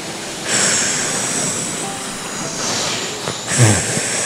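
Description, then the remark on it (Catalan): The wolf in the story of the three little pigs blowing hard on the wooden house: a loud, steady rushing whoosh of air that surges twice, near the start and again toward the end, with no talking. “El llop va bufar.”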